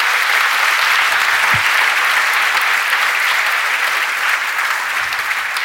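An audience applauds, a dense, steady wash of many hands clapping that holds at an even, fairly loud level for several seconds with no voices.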